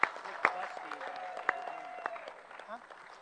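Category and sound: crowd, round of applause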